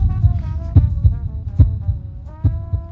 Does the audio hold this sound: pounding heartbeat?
yes